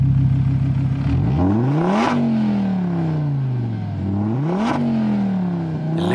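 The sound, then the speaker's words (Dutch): A 2.5-litre Audi five-cylinder engine in a Donkervoort D8 GTO sports car revs hard, its pitch climbing and dropping through several sharp throttle blips and gear changes, loud, with no one talking. “Dit is de vijfcilinder van Audi, maar die sleutelen dus in hun donker voor 2,5 liter.”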